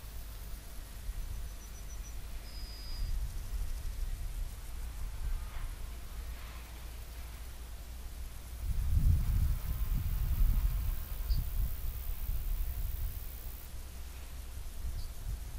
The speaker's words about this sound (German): Hören den Luftzug, wie er anschwillt, wie er abschwillt.